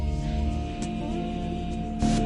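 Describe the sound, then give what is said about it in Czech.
A short intro jingle plays: bright, sustained musical tones with a steady, full sound, a brief accent midway and a louder hit near the end, with no voices. “Kde pak tě máme, Znělko? Tady.”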